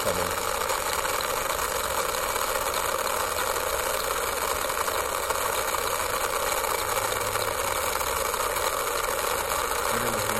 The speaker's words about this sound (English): This is a helicopter sound of a tourist trip to see the North Pole.